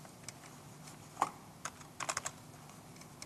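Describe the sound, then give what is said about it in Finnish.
Scattered keystrokes clatter on an unresponsive computer keyboard, a few isolated taps followed by a quick burst of clicks, fairly quiet with no voices. “Näppäimistö ei tottele.”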